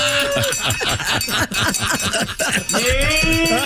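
A cow named Bessie, brought into a studio, moos in drawn-out tones at the start and end, with a busy run of rhythmic clanking and farmyard noise in between, all fairly loud.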